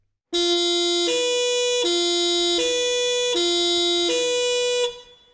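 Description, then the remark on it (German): A tape recording of a police siren blares its two-tone wail, alternating between a higher and lower pitch about six times in steady rhythm, loud and bright with buzzy harmonics, then cuts off. No one speaks. “Ich habe euch nämlich ein Tonbändchen mitgebracht mit einer Polizeisirene. Die spiele ich euch jetzt gerade mal vor.”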